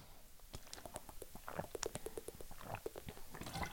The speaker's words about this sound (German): Hoppala, ich muss einen Schluck Wasser trinken, ihr Lieben.